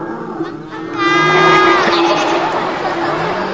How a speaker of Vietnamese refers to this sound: Con bò. Đúng rồi, con bò đó.